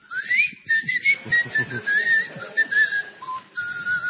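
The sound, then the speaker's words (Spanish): A person whistles a long, wavering tone that glides upward then holds and warbles, mimicking the whistle of a golden and silver spiral firework, with faint background noise and no speech. “No, señor, este le dispara, es un silbido.”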